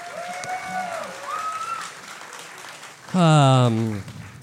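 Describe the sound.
An audience applauds steadily for a few seconds, with a couple of high whoops early on. A loud shouting voice rises over the clapping near the end.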